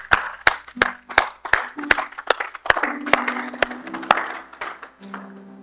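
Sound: audience hand clapping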